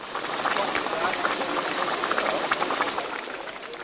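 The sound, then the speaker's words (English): A volcanic hot spring in the mountains around Bandung, Indonesia, bubbles and gurgles steadily, with dense, continuous popping and churning of water and fairly even loudness throughout. “If you can stand the strong smell of sulphur, it's worth climbing down one of the mountains to see the bubbling, burping spring.”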